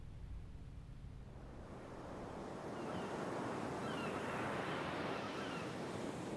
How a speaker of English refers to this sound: When anxious, uneasy, and bad thoughts come, I go to the sea, and the sea drowns them out with its wide sounds, cleanses me with its noise, and imposes a rhythm on everything in me that is bewildered and confused.